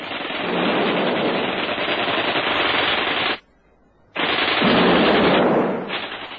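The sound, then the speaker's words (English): Sustained bursts of rapid automatic gunfire fill the air, loud and dense, broken by one brief pause of near silence before another long barrage resumes. No one speaks. “Davy and Rosita ran out of the front door at once, he flinging hand grenades, and she firing wildly with a gun.”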